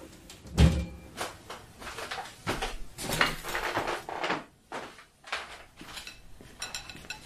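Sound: cutlery and dishes clinking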